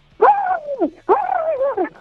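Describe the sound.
A person's voice imitates a turkey gobble in two drawn-out, warbling calls that slide downward in pitch, fairly loud, with a short pause between them, performed live on air as part of a turkey-imitation challenge.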